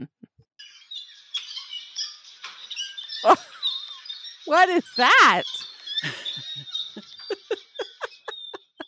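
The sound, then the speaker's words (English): A nightingale floor of loose wooden floorboards in the palace area of Ninjo Castle squeaks and chirps underfoot like birds, a string of irregular high-pitched squeals, some sweeping and warbling, growing quicker toward the end, with a brief spoken question over them. “That is a nightingale floor.”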